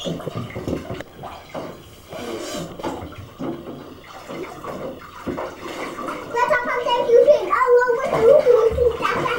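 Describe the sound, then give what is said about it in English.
Water sloshes and splashes in a bathtub as a child plays with toys, the child's voice chattering and babbling over the watery noise, growing livelier and louder toward the end. “all this water splash back here is not, I'm not going to forget about it.”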